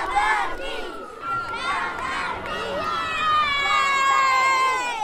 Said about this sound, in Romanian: Curtea grupării de jandarmi mobile Tomis Constanța a răsunat de glasurile a sute de copii. Ei s-au bucurat de momentele pregătite de către jandarmii constanțeni.